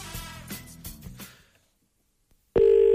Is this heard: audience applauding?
no